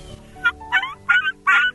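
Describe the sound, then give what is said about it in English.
Four high, thin whistled notes from a hunter's turkey call, imitating a young turkey's kee-kee as used when hunting young birds in the fall, made by putting pressure up into the call, spaced evenly and played clear with no talking. “One of the most used calls in the fall if you're hunting young birds is the kiki or the whistle.”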